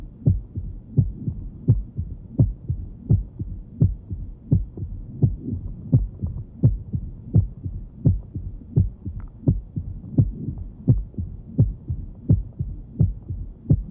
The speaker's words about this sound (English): Although similar in timing to mitral valve stenosis, the tumor plop differs from the mitral opening snap in that it is a low-frequency sound heard best with the bell of the stethoscope.